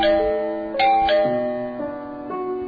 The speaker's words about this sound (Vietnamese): Để Sam bấm chuông cho.